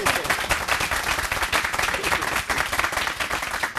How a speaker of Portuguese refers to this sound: Vamos aplaudir o meu Amaranto!